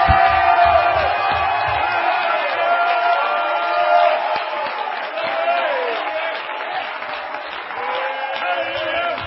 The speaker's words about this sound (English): Let's clap our hands unto the Lord. Let's do it like apostolics and shout unto God with a voice of triumph.